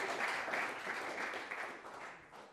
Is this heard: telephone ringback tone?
no